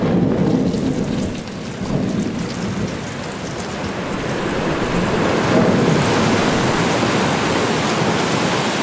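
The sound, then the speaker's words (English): A ship's hull crashing through ice: a steady, loud roar of deep rumbling and grinding with constant crackling hiss on top, swelling slightly toward the end, with no voices. “Even the sound of the ice is the sound of us, of our ship, crashing into it.”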